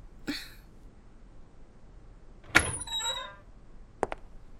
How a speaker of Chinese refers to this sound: 怎么你开个门这么久啊